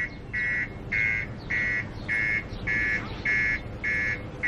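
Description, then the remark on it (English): A parked car's alarm, set off by someone, blares in a steady, rapid series of loud electronic beeps, about eight evenly spaced pulses, over a low rumble of outdoor background noise. “Is this your car? Why did you set off the alarm?”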